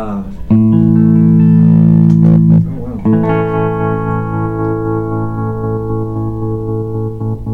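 Electric guitar played through an amp tremolo whose shape control is set to square wave: one chord rings for a couple of seconds, then a second chord is struck and sustains to the end, loud with a touch of reverb.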